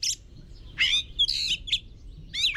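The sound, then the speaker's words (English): A jay gives a run of harsh, raspy calls, about five short bursts in quick succession, clear, over a faint low background rumble. “For a jay that lives in the forest, the forest is its habitat, where it finds food, water, shelter, and the company of other jays.”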